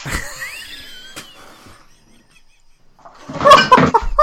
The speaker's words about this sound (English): Did someone just fall over? It's the cats fucking about in the room.